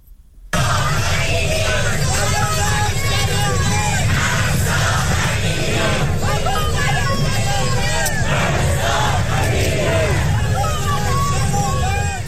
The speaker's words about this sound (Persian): ویدیوهایی که از نیوزلند و استرالیا تاکنون مخابره شده حاکی از برگزاری تجمعات همبستگی با معترضان ایرانی است. سیدنی، ملبورن و بریزبین از شهرهای عمده استرالیا بودند که ایرانیان با حضور انبوه در آنها نام مهسا امینی را فریاد زدند.